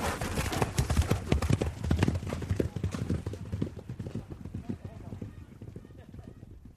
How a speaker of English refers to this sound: Just the same as the horses. You can see the way the horse won't stand still. That's because he's excited. He wants to go on and have his fun as well.